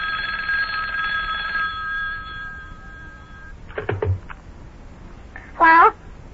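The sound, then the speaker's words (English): An old telephone bell rings in a loud, buzzing burst that trails off over a few seconds, followed by a couple of clunks and a short high-pitched squeal near the end. “Uh-oh, telephone's ringing again.”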